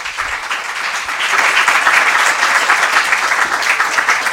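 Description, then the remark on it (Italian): An audience claps steadily for several seconds, a dense crackling wash of many hands that swells slightly after the first second and stays loud and even, welcoming Dr. Magdi Cristiano Allam at an evening event in Foggia, Italy, organised by the Movimento Evangelico Famiglie Italiane. “Vogliamo fargli un applauso per favore.”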